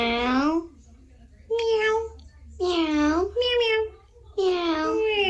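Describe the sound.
A young child's voice imitates a cat, giving a series of about five drawn-out, high-pitched meows with short pauses between them, clear with a faint low hum behind.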